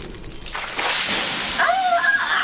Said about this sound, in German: Wasserstrahl! Flieh!